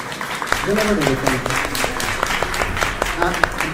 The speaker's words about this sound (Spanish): Muchísimas gracias. ¡Un aplauso!